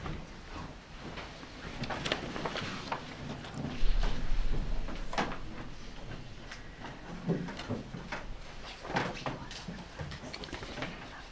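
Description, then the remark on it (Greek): A door is pushed shut with a dull thud, followed by scattered sharp clicks and clunks of a latch and lock being worked, during a sermon. “πρέπει να ολοκληρώσω αν μπορούσε να κλειδώσει η πόρτα από εκεί”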